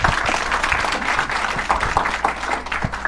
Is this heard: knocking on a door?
no